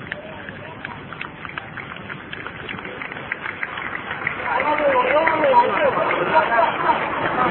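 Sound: crowd hubbub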